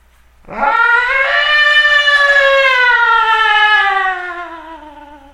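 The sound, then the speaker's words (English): A large bird lets out one loud, drawn-out screech that rises sharply, then slowly slides downward in pitch for about four seconds before fading, raw and harmonic, with no other sounds around it. “A sound screeches out, all wince in fear, as a shadow passes over them.”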